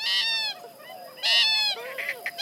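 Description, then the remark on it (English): A purple gallinule calls with loud, nasal, honking bursts, three strong outbursts separated by softer, wavering chatter, with no voices present. “The purple gallinule might sound impractical with its big feet and vivid colors, but find one in a marsh, and all the parts of this bizarre bird will suddenly make sense.”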